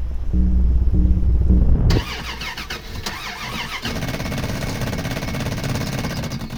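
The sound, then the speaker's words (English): An old truck engine cranks with a deep, chugging rumble, then gives way to a harsh, rattling clatter that keeps grinding on without the motor catching, because of a faulty solenoid. Fairly loud, with no voices. “Damn it, it's the solenoid again.”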